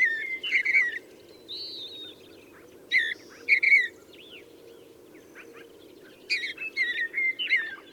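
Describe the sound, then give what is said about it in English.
Western meadowlarks, western wood pewees and vesper sparrows sing in bursts of bright whistles and chattering phrases, with clear gaps between songs, over a steady low background hum outdoors in the foothills in early June. No one speaks. “Up in the foothills, there's lots of bird song in early June. Western meadowlarks, western wood pewees, vesper sparrows chattering away, and also the occasional very soft songs of mountain and western bluebirds.”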